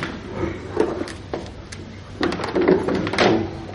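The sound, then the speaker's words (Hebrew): A chair topples over, giving a series of hollow knocks and clatters spread over a few seconds, with the loudest bumps near the end and no talking. “סליחה, יש כיסא אותה, כיסא. סליחה, אני אשר להגיד את זה. מחילה, נפל.”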